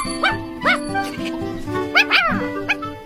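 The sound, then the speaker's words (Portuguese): A puppy yaps in a handful of short, high-pitched barks at uneven intervals, two coming close together, fairly loud over a steady low background hum. “O que você acha, Melody? Que tal um cão de guarda?”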